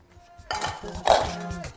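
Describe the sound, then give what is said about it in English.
A metal pot of pre-soaked rice is handled and set down as it is put on to boil, with clattering kitchenware and one sharp, bright clink partway through, over a steady low background rumble. “So let's get the rice on the boil.”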